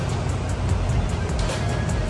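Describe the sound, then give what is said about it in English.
A car engine idles through its exhaust with the muffler valves closed, at CBS Muffler in Denison, Texas, giving a steady, muffled low rumble with a breathy, vacuum-like hiss and a faint regular pulsing on top. “Because right now it sounds like a vacuum.”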